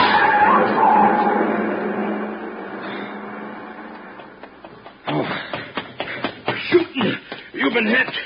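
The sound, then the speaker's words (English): A long black coupe with a lot of chrome, its lights off, roars off fast, its loud engine rush fading steadily over several seconds as it pulls away, then people start talking. “See the car. The one that just gunned out.”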